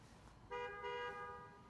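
A car horn honks twice in quick succession, a short toot followed by a longer one, over a low background hum with no one speaking.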